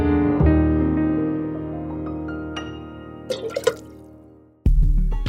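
Water from washing dishes drips and splashes in a quick cluster over a sustained, humming musical tone, followed by a fresh burst of the same tone near the end. No one speaks.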